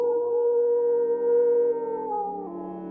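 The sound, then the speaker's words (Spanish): A werewolf's long, strained, agonized howl holds one wavering pitch for nearly three seconds, then sags and fades at the end, loud with nothing else around it. “Un aullido desgarrador resonó en el cine Montija, seguido por un silencio sepulcral.”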